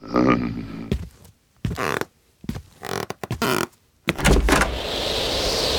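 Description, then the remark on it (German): A door is opened, with a short series of clunks and creaky scraping bursts separated by brief pauses, ending in a steady hiss of background noise. “willst du bitte mal die Tür aufmachen?”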